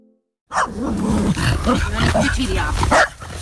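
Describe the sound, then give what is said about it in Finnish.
A dog met on a morning jog in Pori, Finland, snarls and barks loudly, a rough, continuous burst of growling and yapping that lasts a few seconds after a brief silence. “Aamulenkillä tulee koiriakin vastaan, kun aamulenkillä voi odottaa.”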